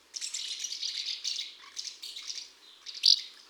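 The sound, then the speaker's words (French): Swallows twittering under the roofs of a village in the morning, in a busy, continuous stream of high, scratchy chirps and trills, with one sharper, louder call near the end. No voices are heard. “Ce matin, au village, on a entendu les petites hirondelles sous les toits.”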